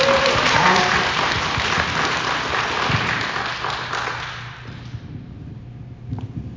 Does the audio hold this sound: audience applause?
yes